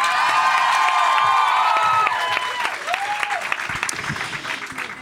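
A crowd bursts into sustained, loud applause with whoops and cheers on top, the clapping dense and continuous before easing slightly toward the end.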